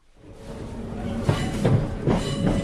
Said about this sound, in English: So let me play out the first bit. It's me on a train in Sussex a couple of weeks ago.